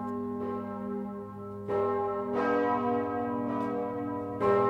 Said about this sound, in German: Das sind dann die Heimatglocken.